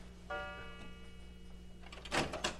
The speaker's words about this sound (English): The library door is opening.